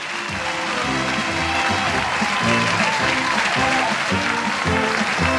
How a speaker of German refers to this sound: Dat is echt een applaus waard.